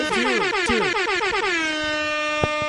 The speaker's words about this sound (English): Where's the air horn? Where's the air horn?